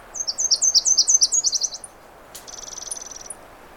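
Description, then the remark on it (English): A Nashville warbler sings overhead, a bright series of repeated high two-note phrases followed by a quicker, lower trill, with a steady outdoor hiss behind it. “Little Nashville still singing overhead.”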